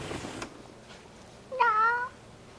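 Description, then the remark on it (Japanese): A single cat meow, clear, rising then falling over about half a second, following a brief rustling noise, otherwise quiet. “にゃんにゃん、あ、にゃんにゃん。”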